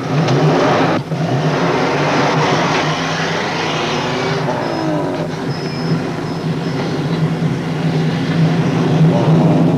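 A truck engine drones loudly and steadily close by, with a rising whine partway through as it revs while the vehicle keeps driving. No one speaks.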